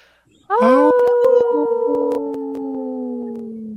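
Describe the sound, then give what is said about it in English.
People on the Native Roots Radio show howl together in imitation of wolves during a Howling for Wolves segment, a loud chorus that starts abruptly, swoops upward, then holds long overlapping wavering tones until the end. “Hold on, we have new people on the show that didn't howl with us”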